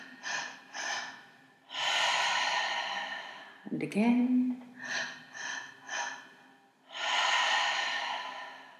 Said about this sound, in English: So let's commence the breathing now. Breathing in.